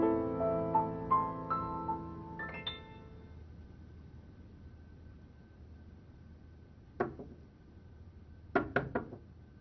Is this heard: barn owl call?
no